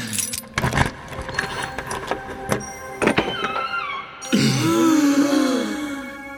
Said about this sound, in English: There's a golden treasure chest. How do we open it? I have a key. Where? In my wall. Right, yes, of course. That makes perfect sense and all of this is normal. All right, I'll just put this key in the lock and...